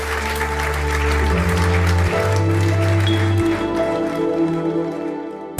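An audience applauds for guest Friedrich Merz, CDU leader, at a Zeit Online event at the Orania in Berlin on 6 October, in a dense, steady wash of clapping lasting several seconds, with sustained low tones beneath it, before the sound cuts off abruptly at the end.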